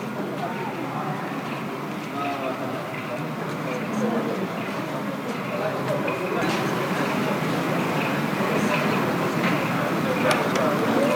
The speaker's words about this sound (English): He is, that little, looks like a remote control. It is a remote control. He's changing the speed of the train. He's driving it down the track and he's going to bring it into stop at the platform.